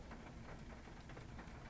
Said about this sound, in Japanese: 雨の音が録音に入っていますか？外といっても今車の中にいます。